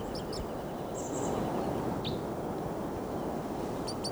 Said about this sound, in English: Crossbill just arrived here on the scene. Looks like a male. And it's not getting flight calls. This is him.